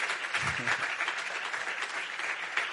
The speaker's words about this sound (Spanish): ¿Lo tienes claro tú? Dale un aplauso si lo tienes claro, hombre.